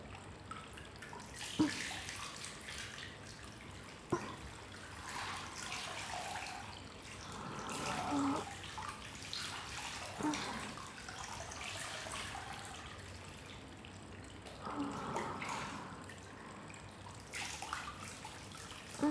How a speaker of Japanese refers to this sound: またお湯かけます。